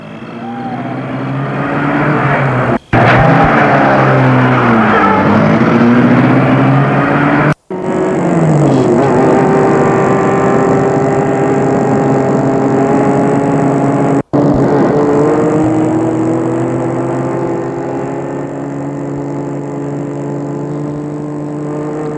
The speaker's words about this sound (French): Tony va s'asseoir à côté du chauffeur qui met la voiture en route.